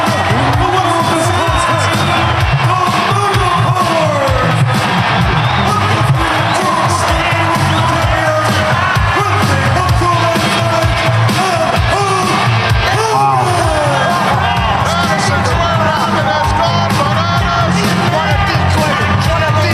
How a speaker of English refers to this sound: Look at that crowd.